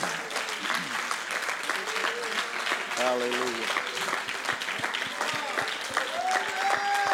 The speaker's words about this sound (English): One more time, why don't we give the Lord a good hand clap of praise.